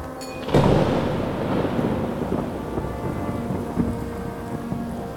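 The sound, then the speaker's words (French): A heavy thunderstorm with roaring wind: torrential rain pours steadily and loudly, with a sharp thunder crack near the start giving way to low rumbling beneath the downpour. No voices. “En France gronde, déluge étourdissant, pluie torrentielle, tonnerre, vent rugissant, grains débridés, grésils assourdissants, grêles de foudre en aigre feu roulant.”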